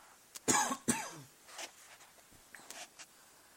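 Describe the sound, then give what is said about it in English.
Two sharp coughs in quick succession, followed by a softer throat clearing and faint rustling, with no talking. “Now I got a cough.”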